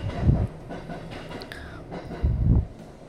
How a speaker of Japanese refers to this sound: 結構この窓全開で電車の音すごい入ってんのかな、まあいいや。